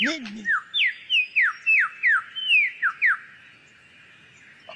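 A superb lyrebird, a bird that mimics other birds' songs and other sounds, sings a quick run of about ten clear, downward-sliding whistled notes, bright and fairly loud, over a steady faint hiss. A brief voice sounds at the very start.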